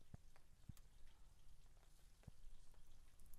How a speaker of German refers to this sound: Regen bringt ja auch Leben, ja.